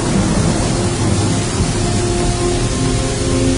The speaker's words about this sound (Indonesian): Suasana sangat hening di sana. hanya suara rintik hujan yang terdengar dari luar.